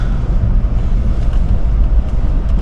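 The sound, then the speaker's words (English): A freshly washed truck's engine rumbles steadily as it drives through a mud hole, churning mud and water sloshing around it, a loud, continuous low roar with no talking. “Navigate this mud hole. Oh, yeah. My freshly washed truck.”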